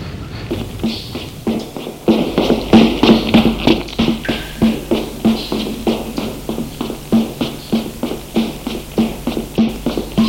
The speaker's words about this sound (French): Frédéric, apeuré, se met à courir.